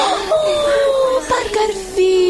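A baby girl coos and babbles in drawn-out, sing-song vocal sounds whose pitch slowly slides downward, fairly loud for a couple of seconds.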